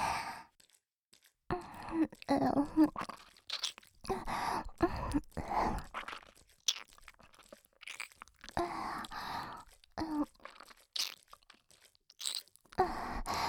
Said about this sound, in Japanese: こっちの耳も舐めちゃうよ。